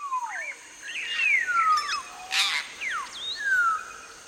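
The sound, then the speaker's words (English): A varied series of calls from canopy-dwelling birds: sliding whistles, short chirps and a harsher burst, overlapping at moderate volume over a faint background hiss, with no one speaking. “But what we were able to figure out was that they have a huge repertoire.”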